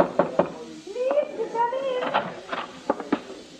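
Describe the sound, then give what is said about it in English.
Sharp knocks rap on a dressing room door with a six-pointed star on it, a quick pair at first and then a few more after a pause, with a voice sounding faintly in between. “Please, come in.”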